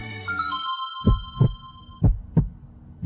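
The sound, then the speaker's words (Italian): Two deep lub-dub heartbeats thump close and loud at a steady pace, layered over a sustained electronic hum that fades out partway through. No voices. “Il cuore è una macchina perfetta, che può essere messa a dura prova da un'alimentazione scorretta e da uno stile di vita poco equilibrato.”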